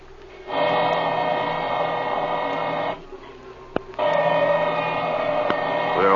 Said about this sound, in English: I can't hear nothing with my ear next to this drill.